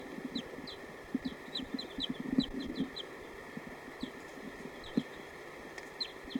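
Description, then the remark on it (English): A bird, bird 230 in a recording session testing birds, calls in a quick series of short, high chirps mixed with soft, low clucks, moderately loud over a steady background hiss and hum; no one speaks. “Stop. He's recording. This is bird 230.”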